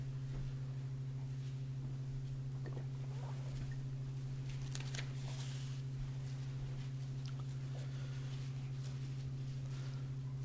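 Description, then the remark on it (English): Soft, scattered rustling of Bible pages as several people turn to a reference in Luke 11, coming in brief bursts from several spots over a steady low electrical hum. Nobody speaks. “I enjoy listening to the rustling of the leaves. It affirms that somebody is looking for the reference.”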